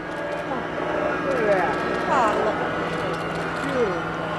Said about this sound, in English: As the drone of an engine broke the morning silence, cameras clicked. 10 slender white birds with black wingtips passed overhead, trailing behind an ultralight aircraft.